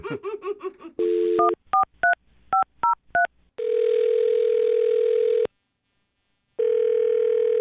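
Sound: telephone number being dialed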